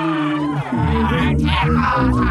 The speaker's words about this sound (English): A giant angry octopus with giant arms roaring out. And this octopus, like all octopi, is very intelligent and very angry.